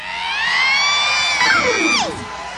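audience screaming and cheering

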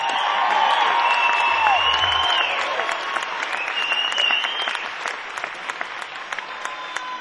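audience applause and cheering

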